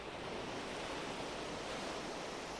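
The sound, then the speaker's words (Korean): A steady, broad wash of ocean surf breaking on a beach fills the short stretch, a continuous hiss and rumble of waves with no distinct single crash standing out, and no voices. “해변가를 걷는다. 파도의 저 소중하고 고결한 몸부림에 경의를 표한다.”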